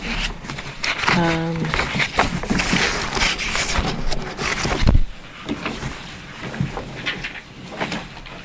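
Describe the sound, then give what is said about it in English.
Busy rustling and shuffling of paper as someone searches for a sheet of written notes, with crinkles and soft thumps as sheets are moved around, continuing steadily for several seconds while a voice murmurs faintly in the background. “So what I thought we could do, do I have the piece of paper that I wrote what we were going to do on?”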